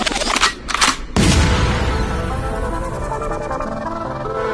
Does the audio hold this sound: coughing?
no